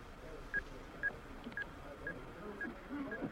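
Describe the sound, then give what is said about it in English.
Six short, evenly spaced electronic beeps of a phone number being dialed, about half a second apart, over a low murmur of background noise. “Bet she's ringing”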